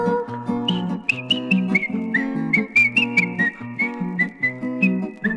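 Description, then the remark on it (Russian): A high, squeaky whistle traces a bouncy melody in short repeated notes, like a rubber hedgehog whistling through holes in its right side, playing over a steady low instrumental accompaniment with no voices. “Ёжик резиновый шёл, насвистывал дырочки в правом боку.”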